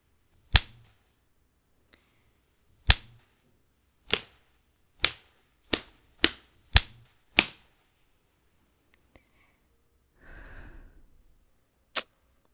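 whip cracking

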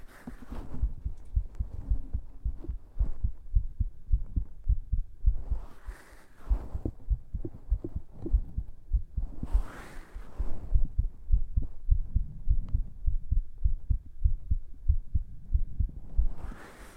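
heartbeat

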